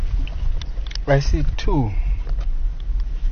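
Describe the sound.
A steady low rumble of several car engines idling in the background, from cars stopped to watch wildlife, continuous and fairly quiet, while a person speaks briefly over it.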